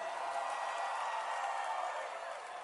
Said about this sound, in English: Only 5 people are shouting.